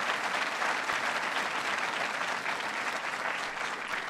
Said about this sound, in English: And since the Packers beat my Bears, I'm reserving all my celebrating for the winners of the service fairs this year, the science fairs. They deserve applause.